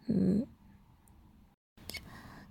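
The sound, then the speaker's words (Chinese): A person gives one short, loud bark in imitation of a dog, then low background hiss follows with a brief rustle near the end. “跟条母狗一样，给主人叫唤两声听听。”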